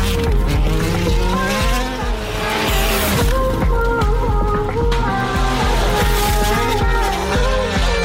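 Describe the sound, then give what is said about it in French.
A car engine is deliberately revved hard, rising and falling in pitch repeatedly over several seconds, loud and continuous with a harsh, roaring tone and hints of tire squeal. “La voiture, elle redémarre. Peut-être pas, je te fais régir le moteur.”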